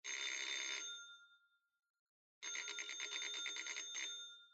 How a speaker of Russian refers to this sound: Дребезжащий звук телефона вторгся в игру. Савва поднялся и снял трубку.